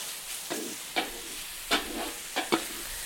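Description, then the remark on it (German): Onions and meat, in roughly equal parts for a Hungarian goulash (pörkölt), sweat in a pot with a steady, soft sizzle, broken by five or six sharp scraping stirs at irregular intervals. No one speaks. “Genau, jetzt schwitzt man das ebenfalls halt mit ein bisschen an, ne?”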